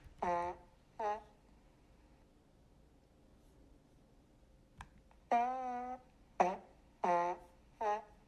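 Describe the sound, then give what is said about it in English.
A string of played-back fart sounds: two short buzzy blasts, a pause, then a longer drawn-out one followed by three more quick toots, fairly loud, with no talking. “Like, a baby's farts are better than that.”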